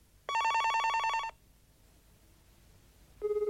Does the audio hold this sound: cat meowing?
no